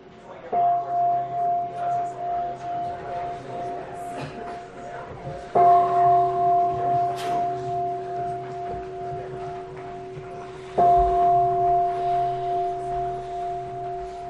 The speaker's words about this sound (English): I love big bells.